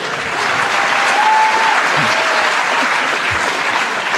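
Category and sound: crowd, studio audience applause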